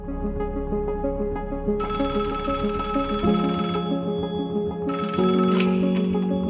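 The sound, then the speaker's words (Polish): A telephone rings with a loud, melodic electronic ringtone, its tones repeating in a steady pattern that shifts pitch partway through, with no one speaking. “Czasami życie jest tak proste jak jeden telefon.”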